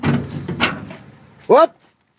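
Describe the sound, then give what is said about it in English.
A man pulls open the door of a windowless trailer: some rough rattling and scraping, then a short, loud, rising metallic squeal of the hinges, fading to quiet. “He opens the door to his windowless trailer and shows the people he's captured.”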